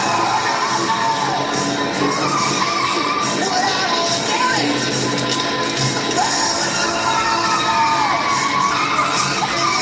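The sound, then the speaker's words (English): In a TV show scene, car tires squeal in several sharp, swooping bursts as cars drive on dirt, over a dense, loud wash of roaring engines and busy action noise, with no clear talking. “Is they were driving on dirt and their tires squeaked.”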